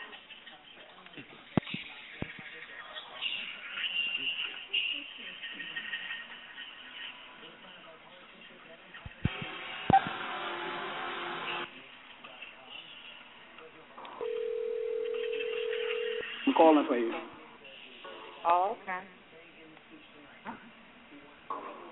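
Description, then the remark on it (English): A steady, low telephone dial tone hums for about two seconds, then gives way to quick bursts of keypad dialing beeps as someone places a phone call while recording, with muffled voices and handling noise around it. “Honey, let me make my phone call too, honey.”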